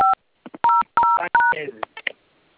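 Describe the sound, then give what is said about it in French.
Four clear phone keypad tones dial star 5 1 5 on a phone to activate a service, each a short steady beep at an even pace, with a voice murmuring around them and continuing briefly afterward. “D'accord, compose gol, active gol, donc on compose avec un téléphone mon étoile 515.”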